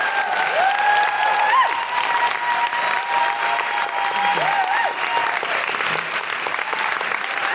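A crowd claps steadily in thanks for Dr. Sonia Adesara, a dense, loud wash of applause that holds for several seconds, with a few whoops and cheers rising above the clapping.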